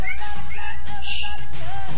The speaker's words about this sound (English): Shut up, cat.